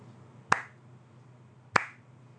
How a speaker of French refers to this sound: Bah, je vais applaudir alors. J'essaie de faire le rythme pour vous, comme ça vous chantez ?